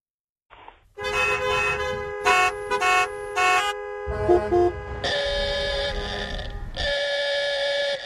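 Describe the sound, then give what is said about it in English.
Several car horns honk over a steady traffic rumble in New York City, with short overlapping toots in quick succession followed by longer sustained blasts, loud. “The New York City Department of Transportation has announced that even though it remains illegal to unnecessarily honk your horn, they're pulling down those don't honk signs.”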